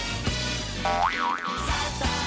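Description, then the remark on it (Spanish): A springy cartoon boing jingle, the radio segment jingle "El saltito": a tone starts around 0.8 s, wobbles up and down in two quick bounces, set against a busy musical bed with sharp hits, no voices. “Y nos vamos a ir un momento a oír el saltito, que nos vamos, creo que, a Puerto del Rosario y a publicidad.”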